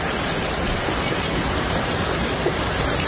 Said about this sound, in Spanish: pero también de la enorme tromba de agua y de granizo que ha caído en Bardallur, en Zaragoza.